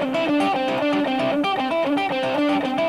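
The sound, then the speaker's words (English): A distorted electric guitar plays a quick repeating figure on the top two strings, with unmuted open strings ringing and bleeding through underneath. Loud and steady, with no voices. “Again, I'm bleeding all over the place, so.”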